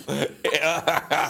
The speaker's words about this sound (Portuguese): Eu sou o que eu faço a tossir. Estou aqui com... Estou aqui, epá, é assim, eu tosso assim, é esquisito. Desculpa.